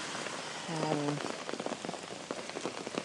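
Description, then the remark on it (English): Heavy rain pours down in a steady, dense hiss, with sharp spattering drops scattered throughout and a brief low humming tone near the start. “So that is some crazy weather.”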